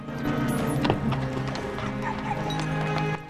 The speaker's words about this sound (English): arrives outside Nottingham Town's walls on a white horse and glances down at the paupers in the dry moat.